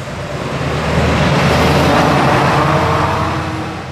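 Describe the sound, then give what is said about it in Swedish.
A heavy lorry drives past on a newly surfaced road at the junction of Virkbyvägen and Täktärvägen, its broad engine rumble and tyre roar swelling to a peak midway and then slowly fading as it moves away, with no talking. “Här kommer en långtradare nu in på den här täckta vägen, så vi ska låta den köra förbi.”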